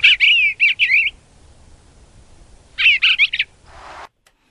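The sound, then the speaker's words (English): A bluebird sings two short bursts of soft, warbling phrases, rising and falling notes separated by a pause, with a brief fuzzy rasp at the end and no talking. “It's a really warbly.”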